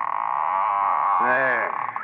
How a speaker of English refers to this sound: Boy, this attic door sticks.